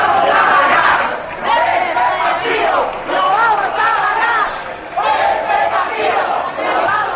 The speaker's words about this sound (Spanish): Y atención, porque se oye, escuchen, el aliento de todos los balcones. Los aplausos de todo un país que está detrás de nuestro equipo.